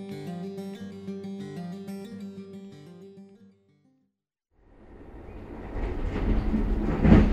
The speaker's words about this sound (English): And we are on the city of New Orleans, the Amtrak passenger train. We are on our way to Fulton, Kentucky.